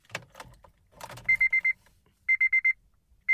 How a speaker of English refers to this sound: The key and ignition chime for Hondas are four tones in succession, which is possibly a reference to the Morse code for the letter H. Here's Morse code for the letter H. Now, this is the Honda chime when you put the keys in the ignition.